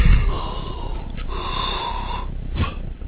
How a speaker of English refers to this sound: Oh, yawn.